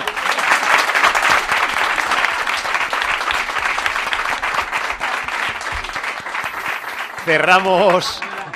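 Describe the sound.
A crowd breaks into sustained applause, dense clapping filling the space for several seconds, with a voice briefly rising over it near the end.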